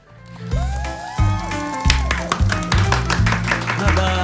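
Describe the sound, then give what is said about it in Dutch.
Live applause in a radio programme studio: a small group claps in quick, uneven bursts that grow busier partway through, with voices and a low tonal hum mixed underneath. “We hebben live applaus in de studio.”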